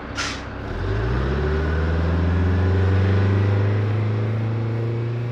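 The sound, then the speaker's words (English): A short hiss like an air brake releasing, then a heavy bus engine rumbles up and holds a steady drone as the vehicle gets moving. No one speaks. “The bus travels slowly, and it stops at many small villages.”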